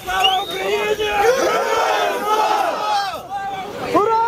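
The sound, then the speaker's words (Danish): A crowd cheers and shouts joyfully as Ukrainian prisoners of war freed from Russian captivity arrive by bus and are welcomed with hugs; many voices overlap in loud, excited jubilation with rising whoops and calls, sustained throughout. “Glæden var stor, da ukrainere, der har været under russisk fangenskab, ankom med bus til et ukendt sted og blev modtaget med kram og jubel.”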